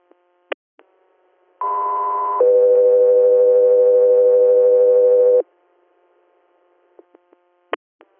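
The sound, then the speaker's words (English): Dispatch radio alert tones for Guthrie Air: a short, higher steady tone jumps straight into a longer, lower one, loud and unbroken for several seconds, with a few sharp radio clicks before and after. “Guthrie Air, stand by for tones.”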